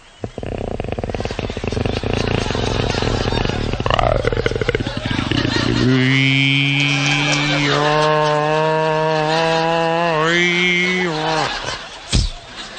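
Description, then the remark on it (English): A voice imitates a boat's outboard motor failing to start on a cold, chilly morning at Corpus Christi: a rough, sputtering buzz for several seconds, then a strained, droning hum that wavers and dies, ending with a sharp click. “The other morning was kind of cold and chilly, and that outboard motor didn't want to go. Here's the way it sounded.”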